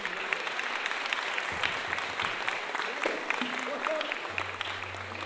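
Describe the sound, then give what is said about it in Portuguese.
An audience claps in a sustained, dense round of applause lasting several seconds, a steady crackle of many hands, with a low hum entering near the end. “Então é isso aí, uma salva de palmas para as nossas amigas que estão aqui hoje.”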